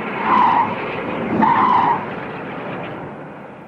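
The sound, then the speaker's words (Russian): A police patrol car with flashing red and blue lights speeds off toward town, its clutch grinding and engine roaring, with two loud screeching bursts of revving and tire squeal, followed by a rushing noise that gradually fades. No voices. “Заскрежетало сцепление, дико взревел двигатель, сквозь кусты мелькнули красные и синие сигнальные огни, и патрульная машина, сорвавшись с места, бешено набирая скорость, понеслась к городу и исчезла за стеной.”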